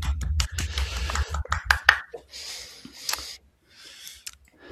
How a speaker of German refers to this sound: Ja, herzlichen Glückwunsch, einmal Applaus hier.